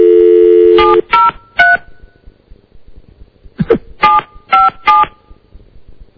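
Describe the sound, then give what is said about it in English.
A steady dial tone cuts off, then three quick keypad beeps sound, a soft click, and four more touch-tone beeps follow as a phone number is dialed, clear with no talking. “Shall I call him? Yeah, I think so. I have Ken's number. Give him a call.”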